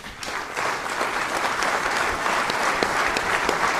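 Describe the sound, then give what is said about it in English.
Sustained applause from a large audience at a ceremony while a family goes up on stage for pictures: many hands clapping in a dense, steady roar with scattered sharper claps, holding an even loudness throughout with no one speaking. “We had probably fast-forwarded it to the next bit of spoken word audio as opposed to the applause and everything else.”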